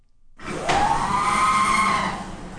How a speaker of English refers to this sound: I've heard this next one too. This is great. Now, this is a sliding door, like when you're at a airport or something like that.